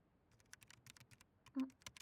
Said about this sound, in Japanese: ってあれ、なんかタイプ音が聞こえるけど、こんな朝からメールか。